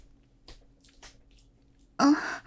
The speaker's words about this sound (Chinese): 没事，我就练得太累了，所以在喘气了。对，刚刚做完体能呢。